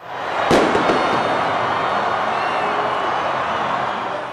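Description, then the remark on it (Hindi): Celebration in the streets of Zagreb, Croatia, after the second semifinal of the football World Cup: a loud firework bang bursts out at the start, then a dense, steady roar of a celebrating street crowd carries on, shouting and cheering without letting up until the end. “ये जश्न की वे आवाजें थीं जो बीती रात फुटबॉल विश्व कप का दूसरा सेमीफाइनल खत्म होने के बाद क्रोएशियाई राजधानी जागरेब की सड़कों पर सुनाई दे रही थीं”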